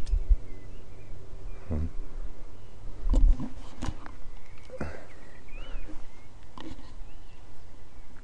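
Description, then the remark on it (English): A swingball ball, played without a bat, whirring around its post, with a few sharp knocks and swishes spread over several seconds against a steady outdoor hiss; no one speaks. “It swings round and round on its post, so you can smack it to each other, and it's the first one to get it up or down the spiral, I guess.”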